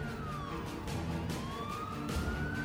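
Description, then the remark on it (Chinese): A police car siren wails steadily, its pitch sliding down and then climbing back up, loud over a low rumbling background, with no voices, as seven or eight police cars surround a building entrance at midnight. “深夜12点，七八辆警车包围了楼门口”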